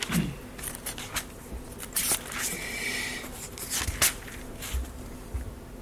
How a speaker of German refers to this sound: Das war etwas, was mir jetzt spontan kam, deswegen muss ich blättern.